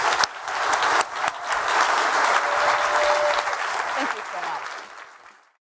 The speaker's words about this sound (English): And other than that, let's just give a huge round of applause to Elon.